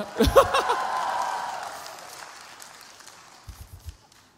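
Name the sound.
audience cheering and applauding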